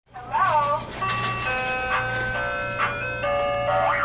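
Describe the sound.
An ice cream truck jingle plays a bright, chiming tune of sustained tones, fairly loud and close, with a low engine hum underneath and a brief voice-like warble at the start.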